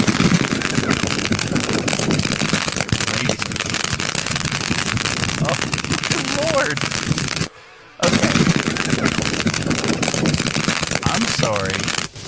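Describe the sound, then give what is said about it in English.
Fireworks fired by a drone and a robot dog in a mock firefight in China crackle and pop in a rapid, nearly continuous, loud barrage, with indistinct voices mixed in and a brief cutoff partway through before the bursts resume. “Here, this is the drone and the robot dog armed with fireworks in a firefight.”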